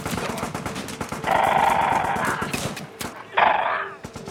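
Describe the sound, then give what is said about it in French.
A dense battle din of rapid, crackling gunfire and heavy cannon booms, heard from a distance, runs throughout, with a horse whinnying loudly twice over the shooting. “il est tout à fait possible que le jeune Philippe de Hauteclocq ait pu entendre le bruit de la mitraille, voire le bruit du canon”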